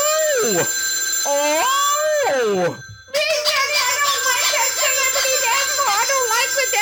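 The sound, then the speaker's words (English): A telephone rings with a loud electronic melody of sliding, bending tones, pauses for a split second, then resumes as a busier, warbling ring that continues steadily to the end. “It's not the death phone.”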